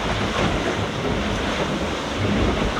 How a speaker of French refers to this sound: Et là je suis en train de me faire enchaîner, il y a 15 nœuds de vent, mais il y a des gros grains qui passent là, et les grains là c'est carrément des trompes d'eau.